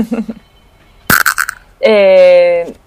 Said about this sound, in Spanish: eso que escucháis por ahí es un teléfono, no pasa nada. Estas cosas del directo.